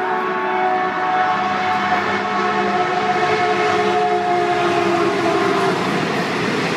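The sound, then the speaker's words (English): A loud train rumbles past a train station while its horn blares in a long, steady, continuous tone through the whole pass, with no voices. “When I'm sitting at the train station and those trains go by, every time it scares the shit out of me.”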